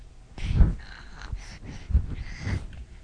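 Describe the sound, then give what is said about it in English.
Twilo, a cat with asthma and a polyp in his sinuses, snorts and wheezes, with about four rough, raspy breaths coming in an uneven rhythm at moderate loudness. No one speaks over them. “He's got asthma. Maybe I could let you hear him.”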